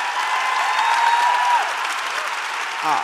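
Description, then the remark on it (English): An audience applauds steadily for about three seconds, a dense, even wash of many hands clapping, with a faint tone running through it and a brief voice-like sound near the end. “Applaud that, sure.”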